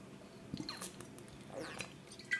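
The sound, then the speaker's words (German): Quiet mouth sounds of a person drinking water: a few wet gulps and small swallowing clicks spread over a couple of seconds, with no talking. “Ihr hört richtig. Ich trinke gerade Wasser”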